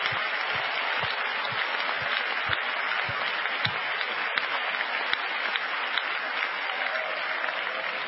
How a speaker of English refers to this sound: Why don't we give the Lord a hand clap of praise right now? Thank you, Jesus.